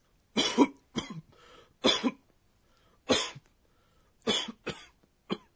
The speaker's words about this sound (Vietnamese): À, đây là ho sù sụ. Vâng, trong trường hợp ho sù sụ như thế này thì nói là Goho goho. Từ Goho goho miêu tả một người ho sặc sụa đến mức khó thở.